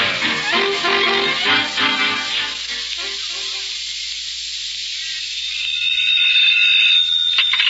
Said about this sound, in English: We've got a general alarm.